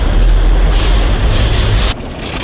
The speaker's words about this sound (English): It's none of those. It's parking at a car wash, obviously. Oh, yeah. Been there before.